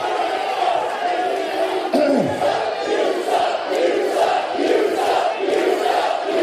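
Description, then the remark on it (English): A large wrestling crowd at the Impact Zone roars and jeers continuously at a speaker, a dense wall of booing and shouting voices with rising swells, loud throughout. “Not much respect from the crowd here at the Impact Zone.”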